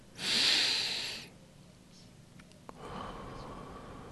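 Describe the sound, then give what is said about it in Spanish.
A deep, loud breath drawn in for about a second, then a softer, longer exhale a moment later, clear with no talking. “Empecemos respirando hondo.”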